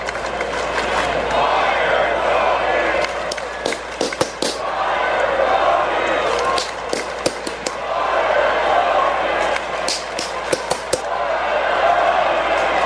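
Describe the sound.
A loud stadium crowd roars and chants, with someone clapping along with the chant. Sharp, irregular claps and bangs cut through the steady din of many voices.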